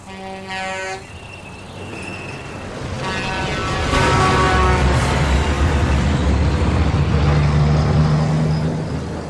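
A brief horn toot, then a car approaches, its engine and tyre roar swelling loud before holding steady as it drives past. No one speaks.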